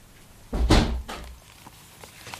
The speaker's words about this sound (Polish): Zamknę drzwi, żebyś nie podglądała. To niespodzianka.